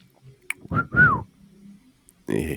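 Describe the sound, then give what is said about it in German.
A person whistles two short notes, the second one sliding downward, with a brief burst of voice or noise following shortly after. “Ich kann pfeifen, das habe ich unter Beweis gestellt.”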